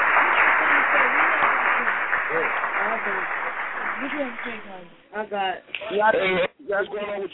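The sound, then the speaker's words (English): Loud, dense applause fills the first five seconds, a steady crackle of many hands, then cuts out as a voice starts talking clearly on its own. “So round of applause to you, and shout out to Grandma too.”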